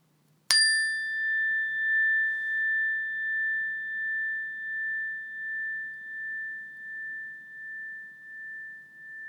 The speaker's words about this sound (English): When you hear the sound of the bell, take a few deep breaths in and a few deep breaths out through the belly and then wait for further instructions.